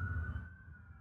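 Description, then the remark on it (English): A steady, high wailing siren from police cars passing by holds over a low rumble of traffic, fairly loud and fading slightly as it moves along, with no one speaking. “Those are cop cars.”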